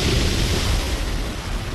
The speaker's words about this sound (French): Ce jour-là, pas question de les sortir pour pêcher. Vagues, rafales de vent, avec leurs 9 mètres d'envergure, ces petites coques en bois ne peuvent pas résister aux éléments déchirés.